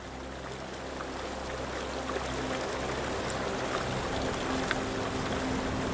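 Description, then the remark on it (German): A tourist boat glides over the water of the Vltava (Moldau) river, its low engine hum droning under a constant wash of splashing and rushing water, with no voices and no breaks in the sound. “Das Boot gleitet sanft über das Wasser der Moldau.”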